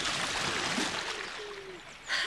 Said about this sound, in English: They heard splashing from the lake and saw a golden-haired boy in the water, who swam over to them and waded out onto the bank.